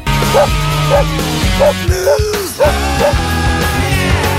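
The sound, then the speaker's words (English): A short upbeat musical jingle introducing the dog news segment from Adam and Ari, built around dog barks, with about half a dozen yappy woofs landing rhythmically over a steady backing track, loud with no talking. “and this is a little bit of dog news from Adam and Ari.”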